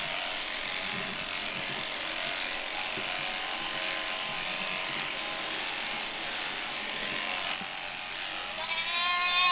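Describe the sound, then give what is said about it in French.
Goats bleat intermittently over a steady, loud mechanical buzz and ratcheting whir, with a sharper, clearer bleat near the end. No one speaks. “comment elles se sentent, les chèvres, l'après-midi ou le lendemain d'une tonte?”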